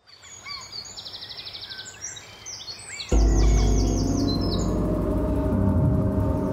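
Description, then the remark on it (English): Birds sing in a forest by the Misconicon River with rapid, high chirps and trills throughout. About halfway, a loud, low, steady rumble comes in underneath while the birdsong continues above it. “The birds stopped singing. Insects stopped buzzing.”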